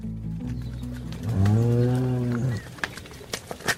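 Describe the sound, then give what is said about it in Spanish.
A single long, loud cow moo with a rising then falling pitch on a large cattle ranch where the cows are in poor condition and very thin, followed by faint outdoor rustling and a few soft clicks. “Llegan a un enorme terreno ganadero. Al tocar suelo en el lugar, Felipe se da cuenta de que las vacas se encuentran en mal estado”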